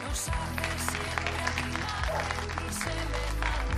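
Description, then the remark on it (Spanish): People out in the street in Bilbao on a day of good weather clap steadily and continuously for about four seconds, a dense patter of many hands at a fairly even level, with a low droning undertone and murmuring voices mixed in. “Bueno, pues aquí, aunque se nota que es día de buen tiempo, la gente, como decíamos ayer, no tiene franjas horarias, se sale a pasear, todavía se mantienen los aplausos.”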